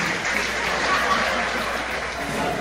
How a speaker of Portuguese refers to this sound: Uma salva de palmas para o Anselmo aí.